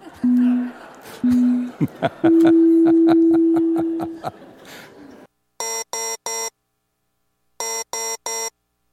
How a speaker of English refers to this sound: if you could help me by starting the timer, because I can't do that. You are going to like this week's siren noise.